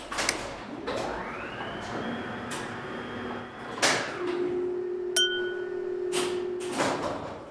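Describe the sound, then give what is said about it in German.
A bus door opens mechanically after all the buttons were pressed: a motor whine rises and holds steady, broken by several sharp clunks and hisses, followed by a low hum and another thud near the end. “Warum geht denn da jetzt die Tür auf? Ach so, weil ich überall gedrückt habe.”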